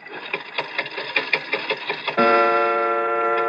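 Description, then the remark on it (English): An antique clock made in London in 1752: its mechanism clicks and ticks rapidly and unevenly for about two seconds as the glass face is opened and the hand pushed forward, then a steady ringing chime tone sounds and holds, clear. “But look at the clock. I open the glass face like this. I push the hand forward like this, and...”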